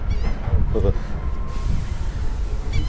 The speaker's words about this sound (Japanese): 営業してるのはカモメだけだ。